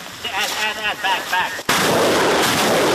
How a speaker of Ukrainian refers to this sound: Вот здесь, на Купянском направлении, град работает очень активно. Работают так быстро, что операторы иногда не успевают за темпами расчета.